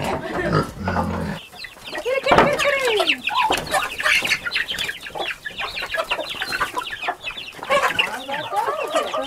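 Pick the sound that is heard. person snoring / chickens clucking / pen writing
chickens clucking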